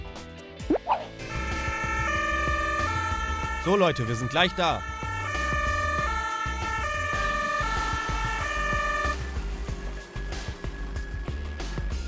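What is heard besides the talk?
ambulance siren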